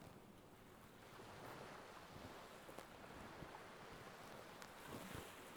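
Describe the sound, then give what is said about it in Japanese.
Ocean waves surge and crash steadily, a dense, roaring wash of surf with wind rumbling across the microphone and no voices. “ザブザブザブザブーン。”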